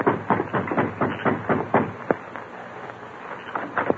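The Lone Ranger knocks on the wooden front door of the marshal's house: a quick series of sharp knocks, about ten raps in the first two seconds, then a pause and a few more scattered knocks. No voices.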